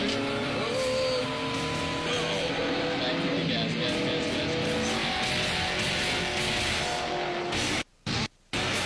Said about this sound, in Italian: Iniziano a correre a bordo di queste Ferrari, presumo. Sì. Dovrebbero essere le California, però non vorrei dire una fesseria. Macchine comunque della Madonna, ragazzi.